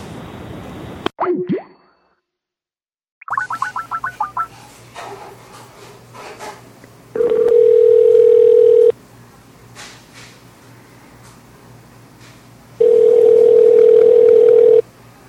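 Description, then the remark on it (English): A rapid string of telephone keypad beeps plays as someone calls a backup phone line, followed by two long, steady, loud dial-tone drones separated by a quieter stretch of faint line noise. Nobody speaks. “That way I don't have to have you all in silence as I try to get everything corrected here so I can call him on his backup line.”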